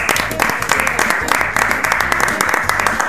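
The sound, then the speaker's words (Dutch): A group of people clapping in steady applause to celebrate the reveal of the mole, dense overlapping hand claps at a constant loud level for about three seconds, with a low murmur of voices underneath. “En er mag even geklapt worden.”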